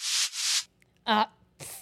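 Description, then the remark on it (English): A person fakes a sneeze: two breathy, hissing inhales, then a short voiced burst and a final sharp hiss, fairly loud with brief pauses between. “Just pretending to sneeze on.”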